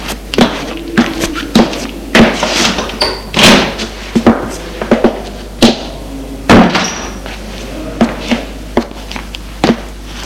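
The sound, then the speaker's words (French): A glass-paned door is handled and opened, with a string of sharp clicks, knocks and rattles of the latch and frame spread over several seconds, no voices. “Et il se dirige vers une porte vitrée pour l'ouvrir.”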